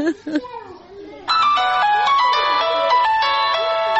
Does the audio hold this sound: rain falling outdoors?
no